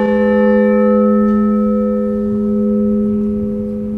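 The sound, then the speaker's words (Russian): A large church bell, the ordinary weekday (non-festive) bell from a set of ten bells, rings with a deep, sustained hum, its layered overtones lingering steadily and fading only slightly over several seconds, loud with no voices. “Следующий колокол у нас идет по лилейной, то есть не праздничный, будничный.”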